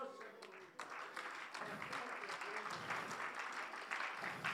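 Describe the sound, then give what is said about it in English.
An audience claps steadily, a dense burst of many hands that swells after the first second and keeps up at a fairly even level throughout. “Now, if you don't understand what I'm saying, you really don't understand why these people are clapping.”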